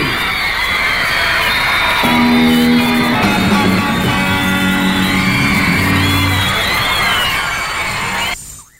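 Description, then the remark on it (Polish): A dense crowd shrieks and squeals continuously at a rock and roll concert, high excited screams layered over a loud, driving band with sustained low tones, all at full volume before cutting off abruptly. “To się działo, piski, wszystko było, wszystko, prawdziwy rock and roll.”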